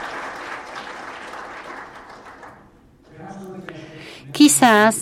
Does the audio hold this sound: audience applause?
yes